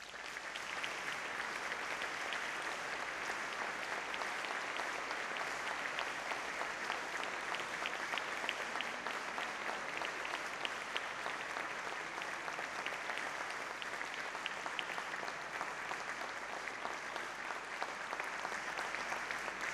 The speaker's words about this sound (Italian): io chiedo l'applauso adesso.